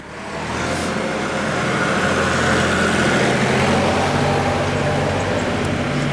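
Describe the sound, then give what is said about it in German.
A tractor rumbles past, its heavy low engine drone swelling in within the first second and staying loud and steady throughout, with no talking. “Oh, kommt gerade ein Traktor.”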